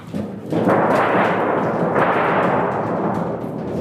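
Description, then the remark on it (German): A musical instrument imitates thunder: a loud, sustained rumbling roar that starts suddenly, swells again about halfway through, then slowly eases off, with no voices. “Also ich kann auch einen Donner machen.”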